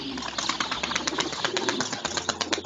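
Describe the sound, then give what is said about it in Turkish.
A rapid, fluttering burst of wings flapping as parrots freed from a net take off, a dense run of soft papery beats over a steady background hiss, moderately loud. “Ağdan kurtulan papağanlar kanat çırparak havalanmışlar.”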